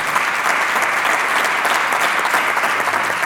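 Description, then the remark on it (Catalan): Steady, dense audience applause for two young musicians from Catalonia who play piano or sing, many hands clapping at once in a loud, continuous wash with no pauses and no voices standing out. “Allà veig dos nois sentadets, molt tranquil·lets, que no saben a què ha vingut, però potser seria un moment d'acostar-vos i de fer-los un aplaudiment”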